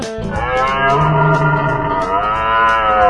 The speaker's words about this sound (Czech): Ano, právě tento zvuk dal název měsíci říjnu. Je to měsíc zvěřiny, říje, jelenu.